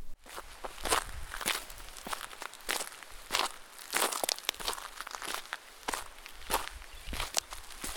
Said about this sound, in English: In the background, you're hearing me hike on a trail just a mile west of UConn's main campus.